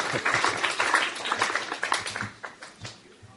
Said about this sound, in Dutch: Weet u? U klapt nu, hè? Weet u dat dat wat inhoudt?